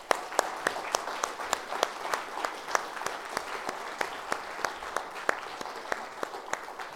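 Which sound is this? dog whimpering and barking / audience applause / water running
audience applause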